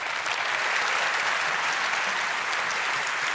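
Steady audience applause, a dense wash of many hands clapping at an even, fairly loud level throughout, with no voices standing out.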